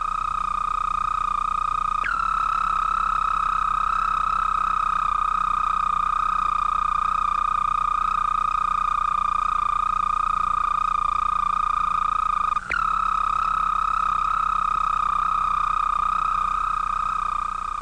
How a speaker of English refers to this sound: when spring comes, he returns to the pond for the mating season. And then the whole pond seems to burst into song. Toad competes with toad to attract the females, and either the loudest voice or the loveliest song wins the fairest mate.